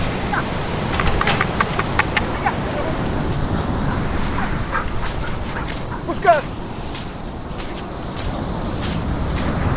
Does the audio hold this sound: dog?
yes